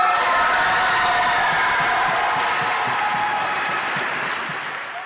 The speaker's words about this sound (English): as the winner of that contest at a school assembly, the gym erupted with cheers.